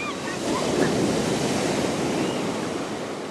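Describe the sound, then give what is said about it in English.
Steady, roaring wash of blue-green ocean surf breaking on a wide white-sand beach at Gulf State Park, a dense continuous hiss with gentle swells in loudness and a faint gusty wind undertone; no voices. “The monster being just a few hundred feet from where he sits, at Gulf State Park, overlooking a wide expanse of sparkling white sand and blue-green surf.”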